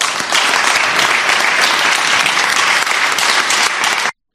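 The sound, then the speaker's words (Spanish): Sustained, dense applause at a council plenary session, during the item on honours and distinctions: a steady loud wash of many hands clapping together for about four seconds before cutting off abruptly. No voices are heard over it. “Aplausos y posteriormente lágrimas.”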